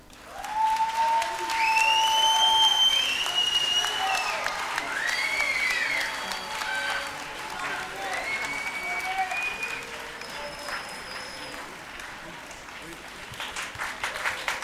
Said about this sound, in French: Bien, merci de vos applaudissements, merci de vos sifflements.